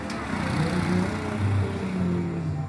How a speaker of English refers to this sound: In Puerto Viejo, cars and ATVs chug along roads next to beach bars. The vehicles move under sloths perched in trees.